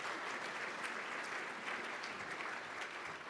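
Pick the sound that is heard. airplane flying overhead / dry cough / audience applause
audience applause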